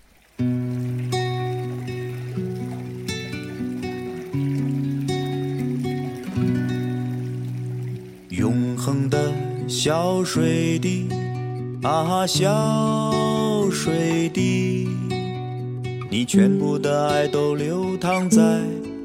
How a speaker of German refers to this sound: Passend zum Thema dieses Podcasts abschließend ein Auszug aus einem Lied,